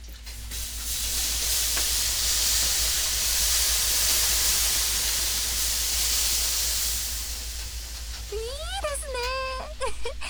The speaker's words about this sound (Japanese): あっと、そうだ、次はロウリュ自分でやってみましょう。はい、ここにこの水をかけてみてください。